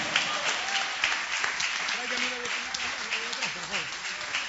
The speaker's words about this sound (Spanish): Aleluya, su nombre, denle ofrenda de palmas al Señor.